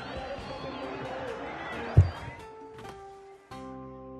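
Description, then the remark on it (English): Crowd noise from a protest in Cairo, Egypt, heard live: a dense wash of many voices shouting and murmuring for about two seconds, ending in a sudden thump before sustained musical tones take over. “You can hear the crowd from Cairo live there.”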